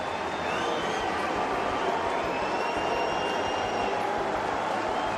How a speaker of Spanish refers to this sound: Con abucheos, pitada que al serbio le sienta francamente mal.